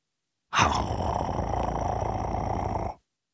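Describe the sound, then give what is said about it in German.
A single low, rasping wolf growl held steadily for about two and a half seconds, fairly loud, apparently a human voice imitating the animal. “So machte der Wolf.”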